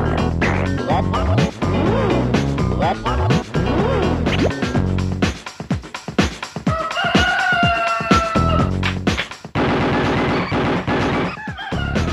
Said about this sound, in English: And imagine this, but sped up. So it sounds a bit …. The sound, ooh, that was the funniest death of a cockerel on any kind of audio thing.